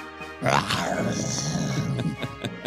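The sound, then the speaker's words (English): A person's voice imitates a kaiju monster roar, a loud, sustained, gravelly bellow that starts abruptly and rumbles on for a couple of seconds, with a few rough bursts near the end. “the roaring person is, of course”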